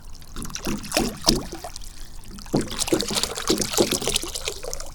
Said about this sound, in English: All right, time to pour the water into the bird bath. Glug, glug, glug, glug, glug, glug, glug, glug.